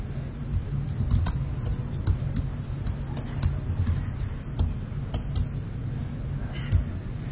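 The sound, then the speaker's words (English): Fast typing on a computer keyboard: a steady stream of light key clicks with occasional sharper taps, moderately loud over a low, constant background hum. “you can probably tell I have done this before. not on Jan's keyboard, obviously”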